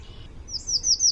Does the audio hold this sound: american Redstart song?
yes